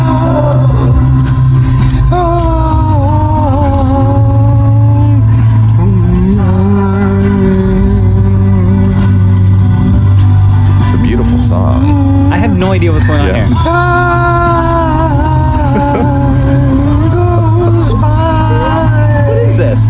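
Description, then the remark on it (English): A steady low engine drone fills the inside of a moving car, loud and constant, with warped, drawn-out tonal sounds like slowed voices or music sliding over it throughout. “This is what it was like in the car”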